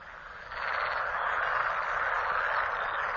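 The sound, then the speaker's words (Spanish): A dense chorus of male frogs croaking together as they mate in huge numbers, a continuous rattling, buzzing wall of calls that swells in after a half-second and stays loud and steady with no voices. “El croar de las ranas macho resuena por toda la zona.”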